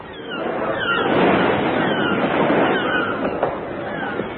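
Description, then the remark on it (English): A steady, rushing wash of noise as an electric rowing boat motors across the open sea on its way from England, swelling slightly and holding at a moderate level for a few seconds with no voices over it. “To break the strike, I have sent for two professional strikebreakers who are even now on their way from England by electric rowing boat.”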